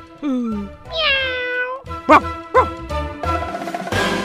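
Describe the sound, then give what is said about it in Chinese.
A cat meows several times, fairly loud: a falling mew, a long drawn-out cry, two short sharp chirps, then a rougher stretch of sound at the end. “喵。车上的乘客还有小狗跟小猫呢。”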